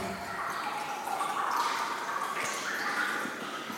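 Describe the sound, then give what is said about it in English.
Water drips from the ceiling into clear, almost aquamarine water below, the drops blending into a steady, reverberant wash with a few sharper plinks standing out, moderately loud, no voices. “enjoys listening to the water droplets fall from the ceiling”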